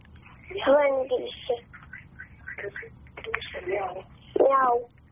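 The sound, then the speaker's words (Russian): A child's voice imitates a cat's meow twice, a drawn-out mewing cry near the start and another near the end, with quieter murmured speech in between over a faint background hum. “Мяу. Мяу хочешь.”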